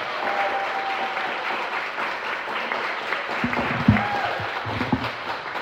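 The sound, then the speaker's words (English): Sustained applause from a sizable audience for a performer after a performance, a dense wash of many hands clapping steadily, with a few louder claps and faint voices mixed in. “Clap it up”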